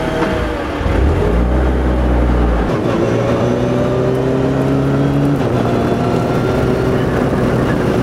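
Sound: race car engine accelerating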